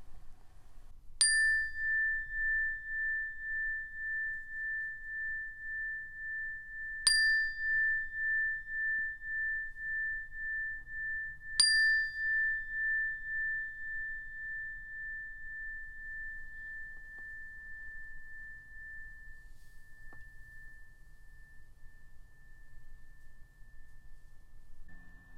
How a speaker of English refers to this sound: to ring the meditation bell, and when I do, I just want to encourage you to shift your awareness to your ears and your hearing sense. See if you can listen to the sound of the bell until you can't hear it any longer or until it's no longer there.